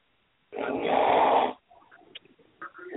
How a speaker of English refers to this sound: snoring. Is he?